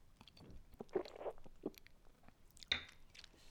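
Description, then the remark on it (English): Quiet mouth sounds of someone taking a first taste of hot Ambrosia sipping chocolate: several small wet slurps and smacks in quick succession, then a sharper click-like sip near the end, with no talking. “Well, let's try some of this. Yeah. This is Ambrosia sipping chocolate. First taste right here.”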